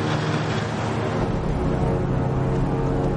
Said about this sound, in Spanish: El autobús circula por la carretera junto al acantilado.